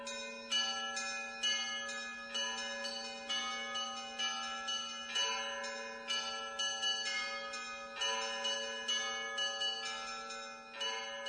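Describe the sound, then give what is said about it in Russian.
Church bells ring out over the town of Verkhoturye in a lively, continuous peal, several bells struck in quick rhythmic succession with long ringing overtones, loud, with no voices. “Когда наступило время возрождения, вновь зазвучали над Верхотурьем колокольные звоны.”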